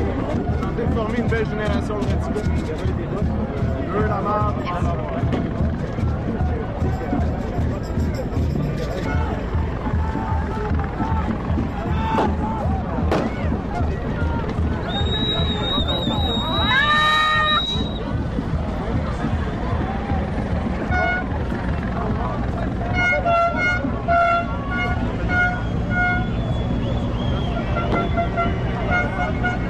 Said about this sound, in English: Oh, there's somebody who's badly hurt apparently, and there's an ambulance that needs to cut through the crowd. And the crowd is splitting, I think, to let an ambulance pass.